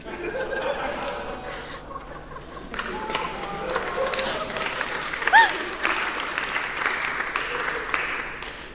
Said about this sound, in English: I got a lowercase applause, not an uppercase applause.